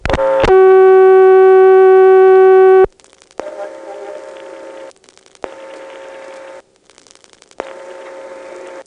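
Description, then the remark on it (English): Telephone exchange tones: a loud, steady tone holds for a couple of seconds, then a buzzier tone pulses on and off in even bursts of about a second and a half. No one speaks. “You simply dial the party's number, you go into a ringback circuit which plays an announcement, you hang up to ring, and then the first party that answers hears an audible ringtone to let them know it's a party line call.”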